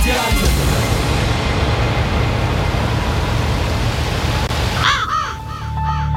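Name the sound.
raven cawing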